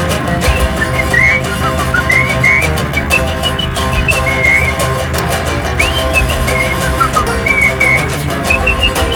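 Someone whistles a lively melody over a full band accompaniment, the bright whistled notes weaving steadily through the music for several seconds, clear and prominent.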